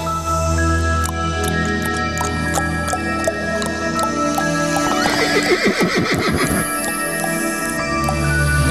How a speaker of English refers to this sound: That'll do. That is the horse. The horse knows everything.